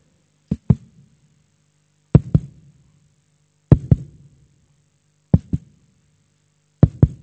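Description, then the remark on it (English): A slow, steady heartbeat: five paired lub-dub thumps about every second and a half, deep, with a low hum between beats and no talking. “And you know, for me, this is the heartbeat of God. Can you hear it?”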